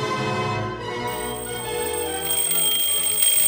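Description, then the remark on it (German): An alarm clock rings steadily and loudly for several seconds, a dense, shrill metallic jangle that never pauses, with no voices present. “Oh, hat der Wecker schon wieder viel zu früh geklingelt?”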